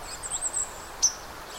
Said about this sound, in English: the sounds that you're hearing, little pink, pink, pink, most of that is white-throated sparrow. There's also a few other little high, kind of vague little sounds.